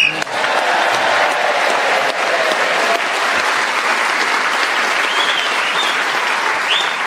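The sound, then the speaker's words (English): Sustained, loud applause from a large BBC show audience sending off a staff member on her last show before early retirement, a dense, steady clatter of many hands clapping without pause, with faint cheers rising here and there. “I should explain to our listeners that extra long round of applause was because they're in on the secret.”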